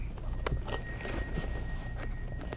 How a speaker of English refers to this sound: Telephone's ringing. Ringing. Did you say ringing?